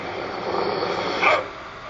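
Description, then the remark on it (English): A single short dog bark rises briefly over a steady, hissy background noise, then the constant rumble continues on its own. “I will super bark you out of that tree.”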